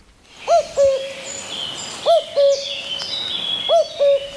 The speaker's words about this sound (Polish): Mam nadzieję, że kukułeczka była wystarczającą przerwą, że nikt się nie zdziwi, że tutaj to, a tutaj to.